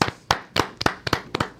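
A few people clap in short, sharp bursts, the claps loosely paired and slightly uneven in rhythm, loud and crisp with no talking over them.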